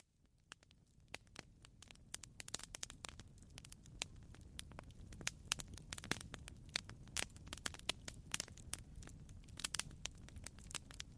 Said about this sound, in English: The campfire crackles its warmth to the people around it as I approach. I quietly step into the yellowish glow.